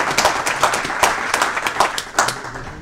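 A crowd applauds the organisers of the day's activities, many hands clapping in a dense, continuous patter of sharp claps with a few louder bursts, no one speaking over it.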